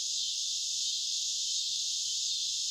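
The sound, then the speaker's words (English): A dense, unbroken drone of cicadas in the canopy of oak trees on a cattle ranch in summer, a steady high-pitched whir that holds at an even loudness throughout in windless air, with no voices or other sounds. “Beyond the incessant droning of the cicadas whirring above me in the canopy of these oaks”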